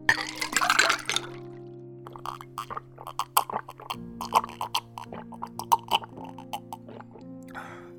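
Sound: water running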